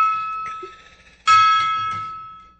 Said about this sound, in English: Hit the gong.